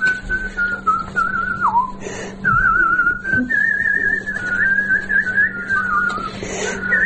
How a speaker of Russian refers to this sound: научите меня так свистеть.